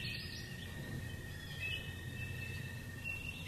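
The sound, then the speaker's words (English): A continuous chorus of tree frogs and toads in woodland in Marion County, overlapping high-pitched trills holding steady throughout, fairly soft, over a low background rumble with no one speaking. “Tree frogs, toads.”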